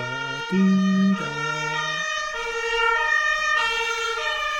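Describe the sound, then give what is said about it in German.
A fire engine siren wails past, its stacked harmonic tones shifting in pitch as it goes by, loud with a low rumble of traffic underneath. “Hier kommt auch schon die Polizei vorbei.”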